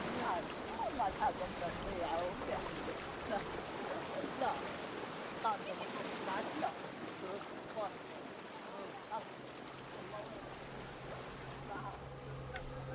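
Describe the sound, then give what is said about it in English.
Small boats bump and rub against the port side of a ship's hull amid a steady wash of lapping water, with scattered voices calling out faintly in Arabic. “Sometime later, the sound of small boats rub up against the port side, and voices call out in Arabic.”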